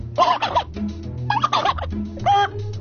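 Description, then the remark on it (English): A person imitates a turkey gobble, producing three quick warbling bursts in a row, fairly loud, with a low hum underneath. “How about some birds? Well, let's see. Turkey?”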